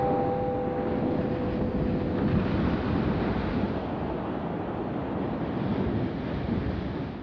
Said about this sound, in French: Le 2 décembre, une tempête commence à agiter la mer Baltique. Et dans le golfe de Botnie, où se trouve le Magda Maria, le vent souffle de plus en plus fort.